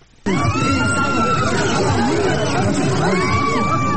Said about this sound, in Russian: Пронзительные крики пришедших в ужас женщин, брань на грузинском, сванском и азербайджанском, звуки глухих ударов. Уже второй день Дманиси, городок Каймакатли, сотрясают столкновения.